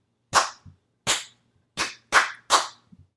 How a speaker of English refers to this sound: Some of those sounds are long, and some sounds are short. Listen to me clap a rhythm.